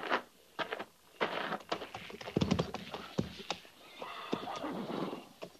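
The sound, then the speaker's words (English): A horse whinnies loudly, its shrill, wavering call rising and falling, while hooves clop and shuffle irregularly on hard ground around it. “Stand a horse.”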